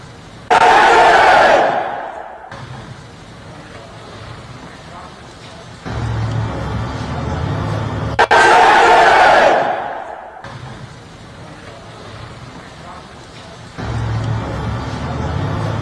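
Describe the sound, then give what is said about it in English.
A huge crowd chants "Heil Hitler" in Italian in unison, two loud roaring shouts about eight seconds apart, each lasting roughly two seconds, with a lower rumbling murmur of massed voices filling the gaps between. “I wish you could see the size of this crowd, because it's sad.”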